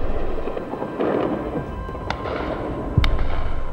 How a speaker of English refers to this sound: The sirens went off at 20 to 3, and even before that, the big machine guns on the tops of buildings around here were firing tracer into the sky.